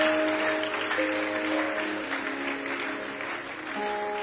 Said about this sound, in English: Hallelujah. Praise the Lord. Let's keep clapping.